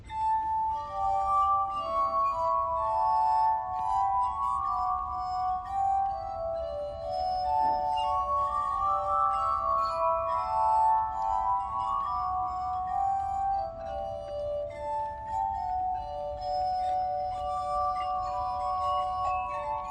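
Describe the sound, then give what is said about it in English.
A glass harmonica, its glasses turned by a foot mechanism, plays a slow, flowing Scottish song of sustained, ringing tones that blend and overlap, steady, with no voices. “Would you like to have a glass harmonica musical lesson?”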